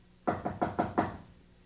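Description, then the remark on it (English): Five quick knocks on a door in an even rhythm, clear, with nothing else around them and no voices; Mr. McFeely is knocking to make a delivery. “Did you hear somebody knocking?”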